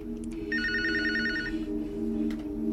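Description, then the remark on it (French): A telephone rings with a rapid trilling bell for about a second, over a steady low hum, in the short film La Voix Humaine as an abandoned woman's lover calls her. “Il est parti, elle l'attend, le voilà qui téléphone.”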